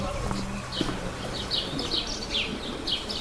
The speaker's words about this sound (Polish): Pięknie. Śpiewają ptaki.